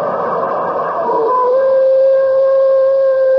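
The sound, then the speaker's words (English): A coyote gives its mating call outdoors on a cold night, a loud, sustained, wavering howl that settles into a steady high tone and holds to the end, preceded by a brief rough, yippy stretch. No one speaks. “Well, that's the coyote's mating call.”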